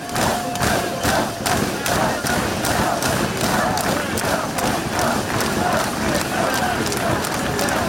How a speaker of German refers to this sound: Eine Gänsehautstimmung, die zahlreichen Zuschauerinnen und Zuschauer am erfolgreichsten Mountainbiker aller Zeiten geboten haben, um ihn noch ein letztes Mal feiern.